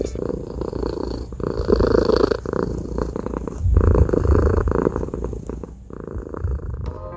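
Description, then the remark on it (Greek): A cat purring steadily, a continuous low rumbling that swells and fades with each breath, with no one talking. “Και με το γουργούρισμα αυτό της γάτας Καλυψός ολοκληρώνεται εδώ η ιστορία”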